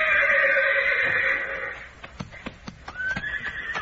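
A horse named Thunder, being ridden, neighs loudly in a long, high, wavering whinny that fades out, followed by a few sharp hoof clops and a shorter second whinny rising at the end.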